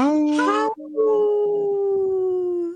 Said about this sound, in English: There's that wolf.